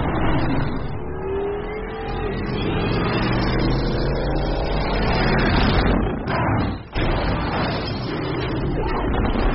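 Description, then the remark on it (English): A car engine runs loudly and steadily, revving with rising and falling tones as it drives off, with a brief sharp break near the end that could be a door shutting. “I'll get my car.”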